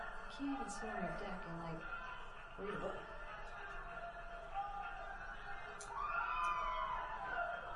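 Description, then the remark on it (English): People shout and yell outdoors in the morning, raised voices rising and falling over a steady background murmur, with a few sharper cries standing out near the end. “These ones are more of the yelling, but the music is equally.”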